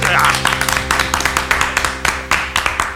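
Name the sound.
clapping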